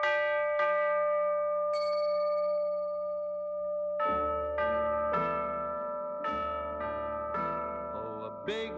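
Orchestral music with ringing bells: a few isolated bell strikes ring over sustained tones, then a steady series of bright struck chimes repeats roughly twice a second, fairly loud, with a deep bass underneath.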